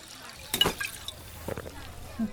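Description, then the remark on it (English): A drink is poured into glasses for two women in two short splashing bursts, with a thin trickle between them and a soft low hum underneath. “One glass for you”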